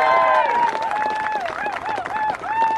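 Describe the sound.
An audience applauds steadily for the last speaker of the afternoon, a Palestinian, with dense, continuous clapping and raised cheering voices mixed in, holding a fairly loud, even level for a few seconds.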